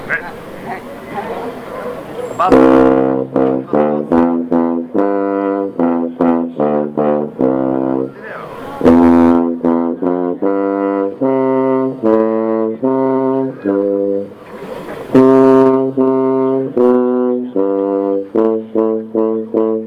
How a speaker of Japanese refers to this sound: 含まないのがこの吹奏楽の特徴でございますが、低音の充実のために、入れております。コントラバスでございます。